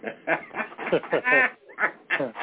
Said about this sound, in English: I live out in the woods. Those frogs that you're hearing croaking right now, mm-hmm. they could be dinner tomorrow night.